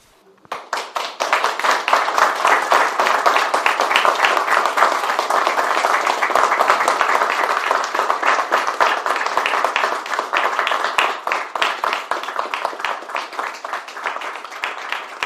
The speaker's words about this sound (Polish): Oklaski, oklaski.